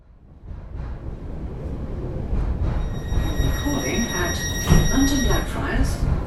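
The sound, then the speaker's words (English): Steady low rumble of a moving train carriage full of people on a regular Tuesday morning, with high metallic wheel squeal tones drifting over the top and indistinct passenger chatter murmuring underneath. “It's a regular Tuesday morning, and this train carriage is full of people getting on with their days.”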